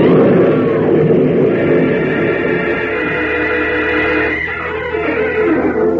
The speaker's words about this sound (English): Unable to bring the speeding car to a stop on the short, steep hill, Jimmy Olsen and Lois Lane cry out as their car skids and careens through the shattered wooden crossbars and plunges off the road to the river below